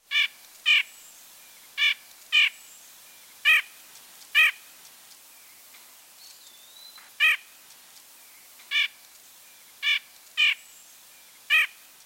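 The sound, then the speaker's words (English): A bird call repeated about ten times: short, harsh, squawking notes at uneven intervals, clear against a quiet background with no talking. “Now listen to both vocalizations again. First the call.”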